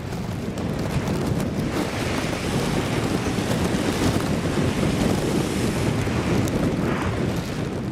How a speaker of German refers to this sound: Wellen prallen auf ein Riff und spritzen durch unterschiedlich große Löcher im Vulkangestein wieder hinaus. Die Blowholes im Königreich Tonga gehören zu den Touristenattraktionen auf der Hauptinsel.